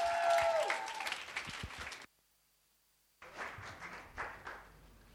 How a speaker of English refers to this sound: So can we give him a round of applause as we welcome him up?